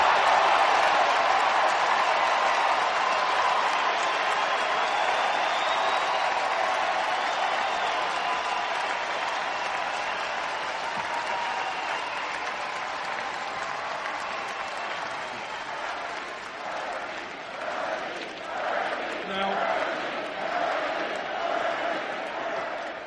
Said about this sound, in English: I think it's fair to call that an enthusiastic crowd.